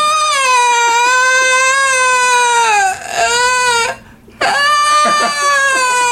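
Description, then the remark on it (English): A voice imitates a distressed cat, letting out long, loud, wavering yowls that dip and rise in pitch, broken once by a short gasping breath before the crying resumes. “Wait, like she's like, "You're a bad cat," and he's like, he just freaked out, like started breathing heavily, laid down against the couch, uh-huh. and started going.”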